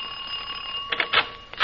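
household object, doorbell ringing

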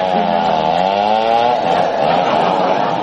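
tool, chainsaw running

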